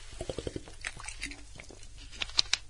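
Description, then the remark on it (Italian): Someone takes a sip of water, with a quick series of soft wet gulps and mouth clicks, then a few quieter swallowing sounds. No one speaks. “Intanto bevo un po' d'acqua, chissà che riesca a ripristinare la voce.”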